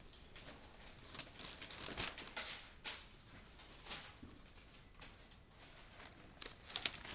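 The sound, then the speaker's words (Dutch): Pages of a book being turned back one page to Hebrews 7 verse 26, with a series of soft, papery rustles and crinkles spread over several seconds. It's quiet, with no talking. “Dat is een bladzijde terug, dus dat kunnen we er nog even naast leggen.”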